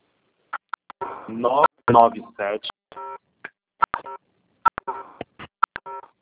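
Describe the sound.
A string of short, sharp phone keypad beeps as someone types on a cell phone during a group call, tapped out in an irregular rhythm. Each tone is brief and fairly loud, with a stretch of muffled talking mixed in partway through.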